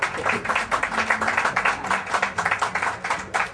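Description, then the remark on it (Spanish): An audience at an award ceremony claps steadily for several seconds, a dense crackle of many hands with small swells in loudness and faint voices mixed in underneath. “Gracias a ti, un aplauso, ¿no?”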